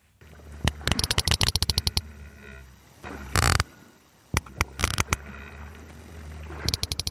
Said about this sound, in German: Was Sie hier gerade hören, das sind Klicklaute von Pottwalen.